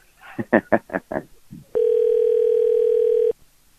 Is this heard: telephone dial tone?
yes